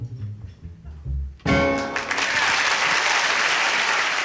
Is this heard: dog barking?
no